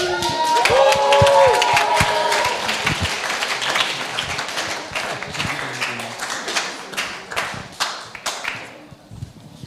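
Loud applause from a talk-show audience welcoming a guest, dense rapid clapping with cheering and whoops at the start, gradually thinning and fading toward the end.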